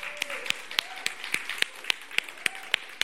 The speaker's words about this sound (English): Let's give the dads a round of applause.